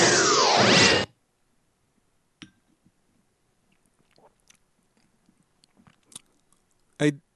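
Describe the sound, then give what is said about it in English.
A brief loud rushing burst, then quiet mouth sounds as someone sips a drink: soft slurps, clicks and a swallow, ending with a sharp little tap. “So after I take a sip, I'm going to delve into the year's first Borg sighting.”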